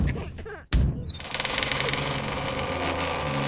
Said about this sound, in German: Aber sehr bald ging es wieder los. Und dann klopfte es schon wieder an das Tor.